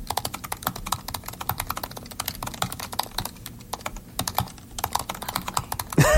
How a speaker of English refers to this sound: So we're going to let you listen to these different keyboards. So we're going to type a quick brown fox sentence, and we're going to start right now with the 2016 MacBook Pro.